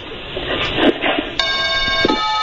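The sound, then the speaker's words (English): A new doorbell chime rings out with a bright, sustained tone, and a second note strikes about a second later. A steady rushing background noise fills the moments before it. “That's my new ding dong.”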